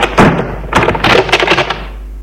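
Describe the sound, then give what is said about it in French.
One of the doors along a corridor opens: a soft knock of the latch, then a burst of scraping and clattering movement over about two seconds before it settles into quiet, with no one speaking. “Tout à coup, une des portes s'ouvre.”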